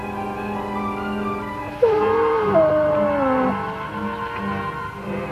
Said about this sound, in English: Dog's been poisoned. Poisoned?